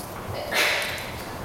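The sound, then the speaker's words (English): A single short sneeze bursts out midway, a quick breathy hiss against faint background noise, not very loud, with no talking around it. “Bless you.”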